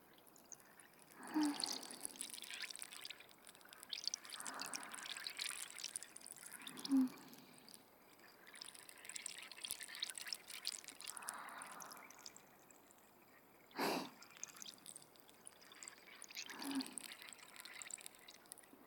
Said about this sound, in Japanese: シュワシュワで頭いっぱいになっちゃうね。頭の中に直接炭酸を流し込まれてるイメージ。